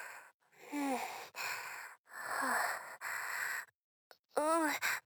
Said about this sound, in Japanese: ちょっと疲れたから、息切れちゃったのかな。